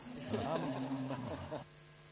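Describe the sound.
A group of people hum together to show agreement, voting by humming in the IETF manner: a low, steady drone for about a second and a half, the overlapping voices blending before cutting off into quiet.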